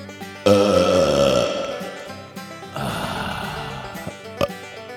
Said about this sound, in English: CMT, this week, you get to taste my belch.